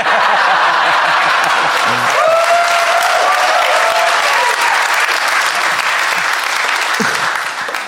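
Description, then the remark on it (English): A crowd bursts into sustained applause, a dense, loud wash of clapping that holds steady for several seconds, with a few whoops and laughs rising briefly through it. “You applaud now.”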